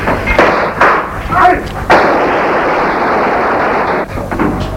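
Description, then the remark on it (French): Several sharp gunshots crack out in quick succession in a blocked street, then a loud, sustained wash of noise follows, with another burst near the end, all harsh. “Il y a de plus en plus de cris, de coups de feu.”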